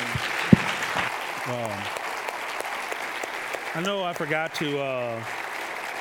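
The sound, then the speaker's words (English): A crowd of people applauding steadily to thank a man who came up from Milwaukee, a dense wash of clapping throughout, with a few voices briefly speaking or calling out over it toward the end. “So let's clap, thank him, and then.”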